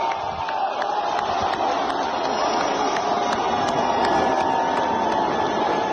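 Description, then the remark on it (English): A large stadium crowd at the Alabama-Georgia game roars continuously as Donald J. Trump appears on the Jumbotron, a dense wash of cheering voices and shouts holding steady and loud for several seconds without letting up. “Did you guys see the crowd just went wild when Donald J. Trump showed up on the Jumbotron at the Alabama game?”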